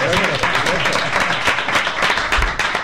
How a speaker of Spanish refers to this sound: Eso por supuesto, añadiendo a toda la gente que está en la plaza. Bueno, otro aplauso para la gente que está en la plaza.